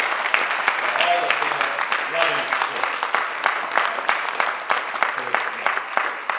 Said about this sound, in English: You see that many of its congregants have come in for the event that was actually scheduled for 45 minutes ago. So can we give them a big round of applause?